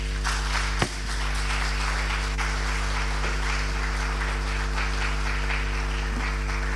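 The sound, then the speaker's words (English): A crowd applauds steadily after a speech by a professor, a dense wash of many hands clapping that holds at an even level for several seconds, with a low steady hum underneath and no voices. “Another round of applause for Prof.”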